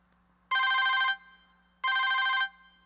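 A telephone rings twice, each ring a bright, rapidly trilling burst lasting about half a second, separated by a short pause. It is loud, with a faint low hum underneath and no voices.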